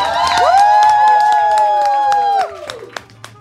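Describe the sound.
An audience claps and cheers loudly, with dense clapping and high whooping voices over the crowd for about two and a half seconds, then it quickly thins to a few scattered claps.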